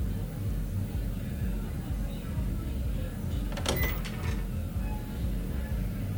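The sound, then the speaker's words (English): A door is opened partway through: a short burst of metallic rattling and clicking from the latch and handle, heard over a steady low rumble that persists before and after. “Look, I'm gonna open this door, okay?”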